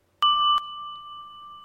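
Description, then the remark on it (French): A wall-mounted doorbell, pulled hard by hand, rings once with a sharp, bright strike, then its clear metallic tone hangs on and fades slowly. Nothing else is heard and no one speaks. “avait découvert une sonnette contre le mur et se mit à la tirer de toutes ses forces.”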